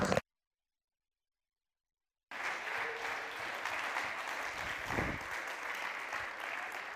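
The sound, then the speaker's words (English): After a brief moment of silence, a church audience breaks into sustained applause, many hands clapping together in a dense, steady wash for several seconds. “Would you one more time put your hands together, and would you just accompany your voice with that hand clap?”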